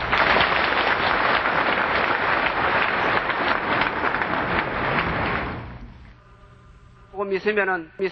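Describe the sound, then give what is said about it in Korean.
Sustained applause from an audience welcoming their spiritual teacher, a dense crackling wash of many hands clapping for several seconds before fading out, followed by a brief burst of speech. “네, 스승님을 환영하는 박수를 한 번 더 해주시기 바랍니다.”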